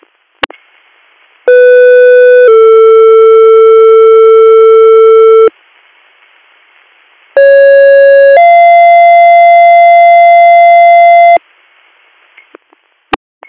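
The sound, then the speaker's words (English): Two loud two-tone EMS dispatch paging alerts, each a short steady tone sliding into a longer held tone lasting several seconds, separated by a brief pause over faint radio hiss and clicks. “Greater Valley EMS, disregard your tones.”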